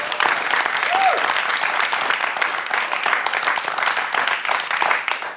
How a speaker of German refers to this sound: Und liebes Live-Publikum, bitte gebt euch zu erkennen mit einem Applaus für unseren Gast